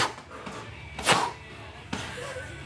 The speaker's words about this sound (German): stehen im Kreis und klopfen ihre Körper ab. Das macht wach und schafft Bewusstsein für den eigenen Körper.